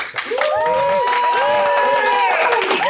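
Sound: audience applauding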